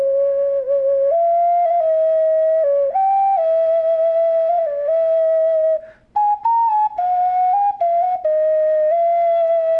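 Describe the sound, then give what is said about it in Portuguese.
A flute plays a slow melody of long, sustained notes, stepping up and down between a few nearby pitches, with a brief pause partway through. The tone is clear and airy, with no voices. “Mas o som dela é o que mais eu consigo demonstrar, assim, para a gente ter uma noção da relação, as primeiras relações do ser humano com a música, no sentido de flauta e não tambores, era algo bem diferente do som eletrônico que temos hoje, né?”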